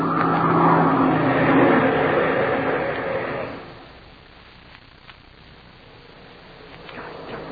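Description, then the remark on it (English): A loud engine roar fills the first few seconds, then abruptly drops to a low, quieter drone as the airplane engine throttles down for landing, with no voices. “The plane's going down the land break.”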